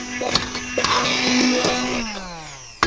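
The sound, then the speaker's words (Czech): A handheld immersion blender whirs steadily, pureeing cooked rhubarb with water in a pot until smooth, its motor pitch dropping as it winds down, with a few knocks against the pot and a sharp clunk at the end. “Teď rebarboru rozmixujeme. Ponorným mixérem do hladka.”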